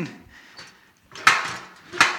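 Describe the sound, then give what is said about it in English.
A steel chair is shifted across a stage floor, making two sharp clanking scrapes about a second apart, with soft shuffling and handling noise before them. “I brought this chair up here to give a little illustration of that.”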